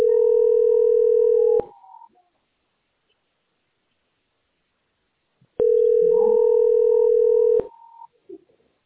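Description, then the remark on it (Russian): A telephone ringback tone: two long, steady, loud buzzing beeps of about two seconds each, separated by roughly four seconds of silence, with faint line noise after each one. “Это звонок идет.”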